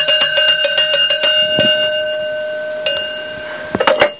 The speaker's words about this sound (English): It's a great big bells with lovely loud rings. There's my biggest. My biggest bell is a big cowbell.